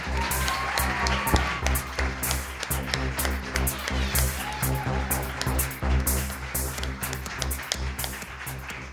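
Sustained audience applause at the U20 Frankenslam 2020 poetry slam, welcoming the first performer, with dense, continuous clapping and a few cheers rising over it, steady and fairly loud throughout with no speech.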